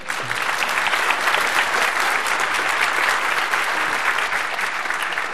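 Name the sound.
audience applause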